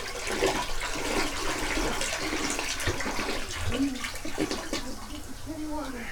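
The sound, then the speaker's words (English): A toilet flushes after old cat drinking water is poured into it, with a steady rushing and swirling of water that lasts the whole stretch, and faint voice-like sounds surface briefly beneath it toward the end. “Shortly before the show started, poured in the toilet, flushed the toilet, put the bowl back on the ground.”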